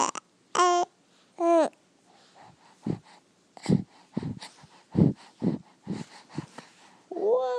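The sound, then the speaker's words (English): A baby babbles, starting with a few short, high-pitched squealing coos, then a run of softer, choppy babble syllables, ending with another rising squeal. “Whoa, it's a baby.”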